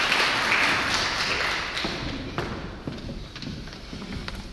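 An audience claps together in a dense, crackling burst of applause that holds steady for several seconds and eases slightly toward the end, with scattered sharper individual claps and no speech.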